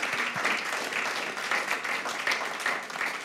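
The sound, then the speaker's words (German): An audience applauds steadily to welcome the guests of a podium discussion, a dense, continuous patter of many hands clapping at an even level throughout, with no voices standing out above it. “Und ja, heißen Sie sie doch ganz schnell herzlich willkommen mit einem Applaus.”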